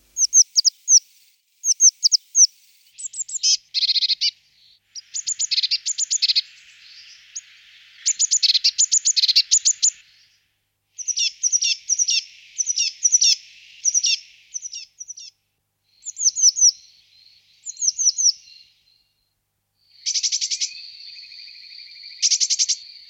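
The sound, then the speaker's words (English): A blue tit sings a series of different high, thin, tinkling phrases, always in the same tone, short bursts of rapid notes separated by brief pauses, clear with no other sounds around. “Blue tits use a lot of different phrases, but always the same tone.”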